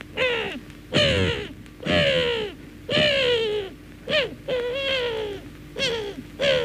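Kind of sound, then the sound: bird, seagulls screeching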